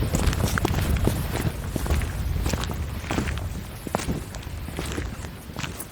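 Rapid, irregular clicking footsteps of tap shoes, sharp bright taps scattered across six seconds over a steady low rumble, with no voices.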